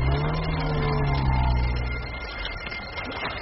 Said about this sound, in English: They get into the car and drive off.